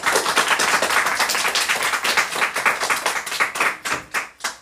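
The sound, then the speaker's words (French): A crowd applauds the arrival of Katniss Everdeen for an interview, with dense, rapid clapping that stays loud, then thins toward the end as individual claps become distinct and taper off. “Je veux un tonnerre d'applaudissements pour son arrivée.”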